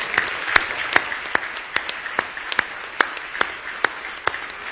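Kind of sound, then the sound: crowd, audience hand clapping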